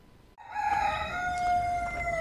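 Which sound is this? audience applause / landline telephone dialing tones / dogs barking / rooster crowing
rooster crowing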